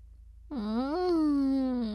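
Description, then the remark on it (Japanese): After a brief silence, a single drawn-out whiny moan sets in, rising slightly in pitch and then holding steady in a fussing, complaining tone, fairly loud. “そんなにぐずっちゃってカメさんイジイジされるのそんなに嫌なの？”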